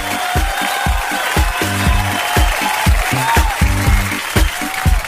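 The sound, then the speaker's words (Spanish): Steady, dense applause for the hardware store Ferretería Mall fills the whole clip, layered over a rhythmic musical backing with a thumping low beat. No one speaks. “Un gran aplauso para los amigos ahí de los amigos de Ferretería Mall.”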